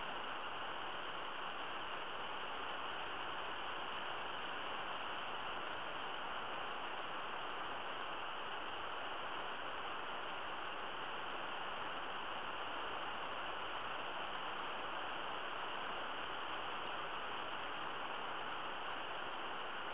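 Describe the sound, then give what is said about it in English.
Steady falling rain makes an even, unbroken hiss that holds at the same level for the whole stretch, with no voices and no distinct individual drops. “Allow the sound of the rain to increase your frequency ever higher now.”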